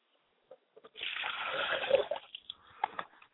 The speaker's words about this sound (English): We pour libation and a glass of water to my mother spirit, and my mother spirit is Yamanja.